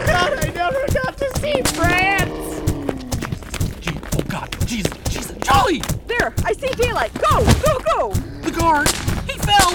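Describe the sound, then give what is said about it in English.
Firecrackers crackle in rapid, uneven bursts of sharp pops, loud, while people shout and call out over the noise throughout. “I'm out of firecrackers.”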